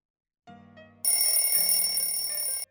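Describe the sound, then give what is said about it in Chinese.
An alarm clock rings: a soft low buzzing tone starts, then a loud, steady metallic bell jangles continuously for about a second and a half before cutting off. No voices. “闹钟的声音将林少荣唤醒”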